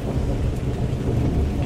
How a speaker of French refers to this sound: Par instant, on pourrait croire que le tonnerre s'est éloigné